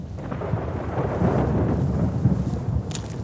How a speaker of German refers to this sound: Oh, da braut sich ein Gewitter zusammen. Hört ihr das?